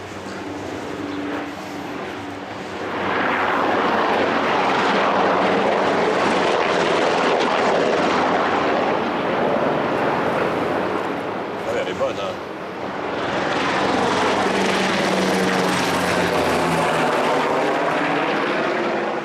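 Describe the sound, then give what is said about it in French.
American military helicopters pass overhead, a loud continuous rotor and engine roar that swells, dips briefly, then surges again. A voice can be heard beneath the noise. “Le problème avec ces hélicoptères américains, c'est qu'ils lâchent des leurres, c'est-à-dire des petits carrés de métal incandescent.”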